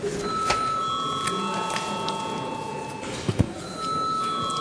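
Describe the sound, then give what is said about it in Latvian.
An electric bell rings steadily in a parliament chamber before deputies register their attendance, a sustained metallic tone that continues for several seconds, with a few soft knocks and shuffles in the background and no talking. “Lūdzu zvanu.”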